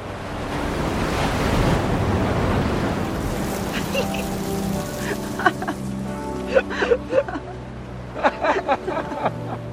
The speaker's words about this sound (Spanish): Ambos sentados frente al mar. Una ola los baña.